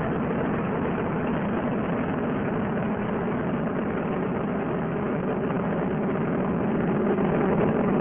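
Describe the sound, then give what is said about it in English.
Space shuttle Discovery's three main engines roar steadily during launch, throttling back to 74% of rated thrust as the shuttle passes through maximum aerodynamic pressure. A dense, unbroken rumble holds at the same loud level throughout, with no voices over it. “Discovery's three main engines are beginning to throttle back to 74% of rated thrust as Discovery passes through maximum aerodynamic pressure.”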